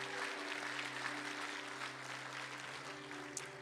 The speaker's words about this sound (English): Would you give the Lord a big round of applause in this place?